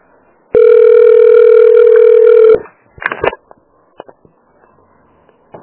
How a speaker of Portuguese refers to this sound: Na minha bolsa deve ser o celular, tá aí, tá aqui, tá aí, pode pegar esse.